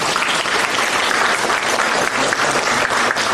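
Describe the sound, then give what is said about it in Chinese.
Sustained applause from an audience, a dense wash of many hands clapping at once, steady and loud throughout with no pauses and no voices rising above it. “不鼓掌啊！”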